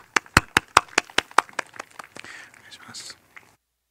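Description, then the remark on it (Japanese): A church audience applauds as an offering to God: a run of sharp, evenly spaced, loud claps breaks into looser scattered clapping that quickly fades into soft rustling. “主に期待して神様に拍手を捧げましょう。”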